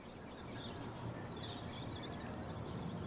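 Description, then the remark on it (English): Bats chirp and squeak in high, thin pulses in the Phoenix Bat Cave in Phoenix during a guided tour: two quick runs of about five chirps each, faint and evenly spaced over a soft background hiss, with no voices. “A little song, because they sing, they chirp, they trill, they squeak.”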